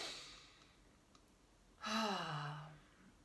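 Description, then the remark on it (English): A person takes a breathy intake of air, then gives a single drawn-out yawn with a voiced tone that slides downward and trails off, heard alone against a quiet background. “I am sorry. I am yawning.”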